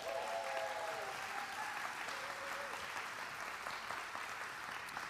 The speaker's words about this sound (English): So those are our interns. Give them a round of applause.